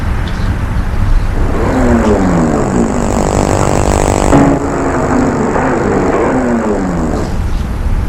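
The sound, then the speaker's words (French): A woman's truck engine rumbles loudly and steadily, its drone rising and falling in pitch as she pulls up and parks, with a short hissing burst midway through. “Enfin, il la voit avec son camion.”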